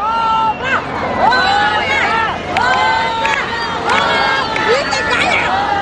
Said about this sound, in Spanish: saliendo del escenario entre aplausos y ovaciones del público presente, que no lo querían dejar ir y comenzaron a gritarle a coro que cantara otra.